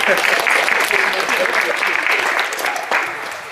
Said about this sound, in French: Merci. On peut applaudir, hein, oui.